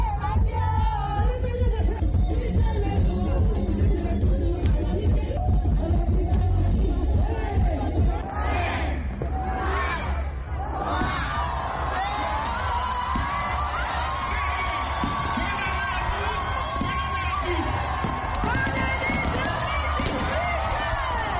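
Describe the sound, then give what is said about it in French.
A large, euphoric crowd at a coupé-décalé concert roars and sings the performer's songs together over loud, thumping music, with bursts of cheering and whoops rising out of the dense, continuous wash of voices. “Ses titres sont repris en chœur par la foule en délire.”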